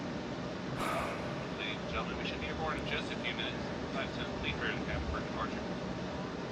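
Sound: airplane cabin engine drone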